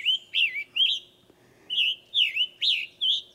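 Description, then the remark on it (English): A scarlet tanager sings a run of hoarse, burry, robin-like phrases, rising and falling in quick succession with a short pause midway, clear with no voices. “If you got Lee's, I think's got a scarlet tanager for us. Listen to it like a robin with a sore throat.”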